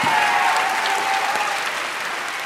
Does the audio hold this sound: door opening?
no